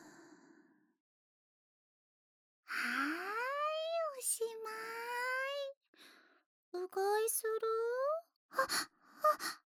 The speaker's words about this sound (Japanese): おっきなあくび。目もトロンって。